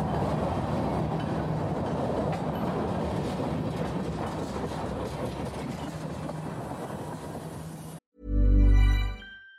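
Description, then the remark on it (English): Train wheels screech and grind on the rails under a steady, rumbling roar. It stops abruptly, and a loud, low, droning tone briefly takes over. “And the train wheels began to screech underfoot.”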